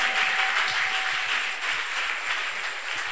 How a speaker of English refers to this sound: You follow the word and bear fruit of what we are talking about. You better clap those hands.